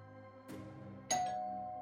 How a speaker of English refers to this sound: On Tuesday, the doorbell rang just before 5 in the morning.